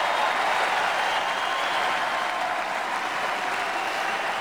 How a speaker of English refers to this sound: The most conservative people in the country were standing and applauding that. That's incredible. That's called progress.